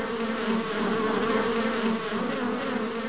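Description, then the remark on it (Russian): A dense, continuous, loud buzzing of many wasps, angry at people standing near their nest, with a steady droning hum that swells slightly but never stops across the few seconds, no voices present. “все-таки осы сердятся, что мы находимся так близко от их гнезда.”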